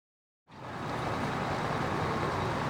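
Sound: street traffic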